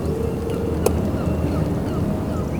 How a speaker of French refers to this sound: Et puis, on est cerné, entouré par des petites grèves, voilà, des petites plages de sable blanc, et l'eau, on est entouré d'eau et d'oiseaux.